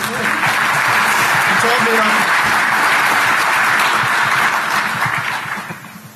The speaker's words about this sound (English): Round of applause for Dan for taking the bullet for me.